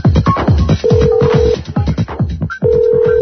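A telephone rings in steady electronic tones, twice, in a call center full of overlapping voices talking at once, the ringing loud against the constant chatter.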